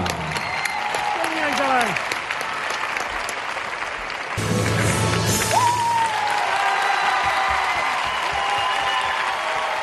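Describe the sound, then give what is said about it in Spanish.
Sustained audience applause for Ángela Mora, a 17-year-old gymnast with Down syndrome, fills the whole recording, a dense steady clatter of many hands, with cheers and whistles rising over it and a brief jump in loudness midway. “El aplauso para Ángela Mora.”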